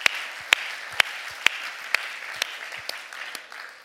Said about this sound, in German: Ihr seid die Helden des Kirchenbaus. Gebt euch doch einfach mal einen Applaus gegenseitig.